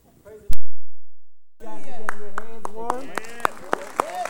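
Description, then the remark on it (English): An audience claps hands in a steady rhythm, sharp regular claps over voices, after one loud crack and a brief silent gap at the start. “Don't get too comfortable because this next song is all about clapping.”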